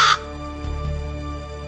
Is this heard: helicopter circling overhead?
no